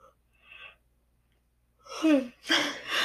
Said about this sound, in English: Sorry, I have to yawn.